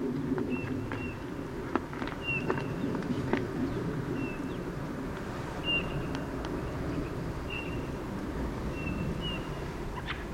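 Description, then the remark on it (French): A thrush gives short, thin, high-pitched call notes, repeated about eight times at uneven intervals over a steady low rumbling background. “Ah, un cri de grive.”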